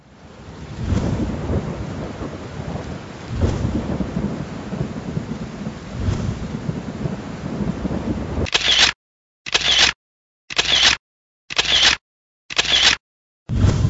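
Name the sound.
thunderstorm with heavy rain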